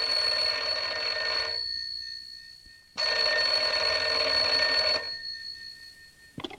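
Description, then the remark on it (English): An old-fashioned telephone bell rings in two long, loud bursts separated by a pause as Jack Benny calls Rochester long distance, the ringing clear with no one speaking. “And here's Jack calling Rochester on the long distance phone.”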